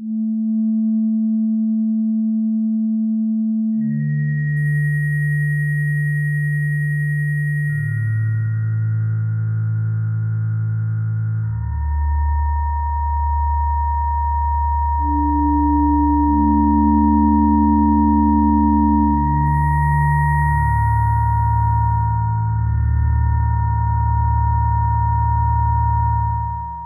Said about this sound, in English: So I'm going to use the LFO1 to control cut, feedback and damping. So I'll set a slow speed, depth of about 70, use a sine wave form, set cut to about 60, feedback to 40 and damping to 50.